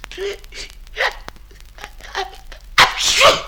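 A few short, breathy vocal catches build up before one loud, explosive sneeze bursts out near the end, after smelling bitter powders; sharp, with a hissy, noisy tail.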